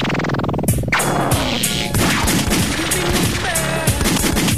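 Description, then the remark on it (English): A rapid burst of loud gunshot sound effects, sharp cracks firing in quick succession like automatic gunfire, dense, filling the whole stretch with little pause between blasts. “They could mean rewind, the gunshot means forward.”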